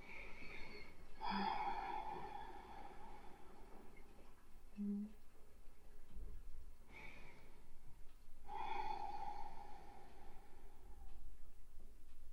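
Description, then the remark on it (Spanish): Slow breaths drawn in and let out through the nose, each a long airy rush of air separated by quiet pauses, with no talking. “Y poquito a poco puedo llevar esa exhalación a la nariz, manteniendo el cierre de mi garganta, manteniendo esa conexión con el sonido, voy a inhalar por la nariz y exhalar por la nariz.”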